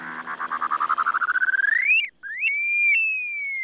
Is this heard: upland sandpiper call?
yes